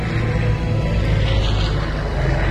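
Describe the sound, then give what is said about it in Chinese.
An airplane flying in from afar and approaching: a steady, fairly loud engine drone with a deep humming rumble, holding even throughout without any voices. “这时远处飞来了一架飞机，越来越靠近小红和小蓝。”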